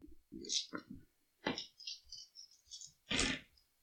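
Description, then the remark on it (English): Dice clatter and rattle across a hard plastic coffee lid in a couple of short, sharp bursts during a game roll, with quieter clicks and tapping between them and people talking. “I think you should stop rolling on round. The coffee lid. I think that's your problem. I think those dice are cursed.”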